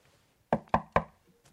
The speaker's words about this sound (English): Who's knocking? The devil. He's come to get you.